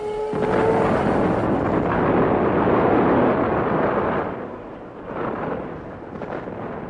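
A massive nuclear bomb explosion in the Nevada desert, forming a mushroom cloud, erupts into a loud, sustained roaring rumble across the whole range, holding for about four seconds before slowly fading into a lower, churning roar.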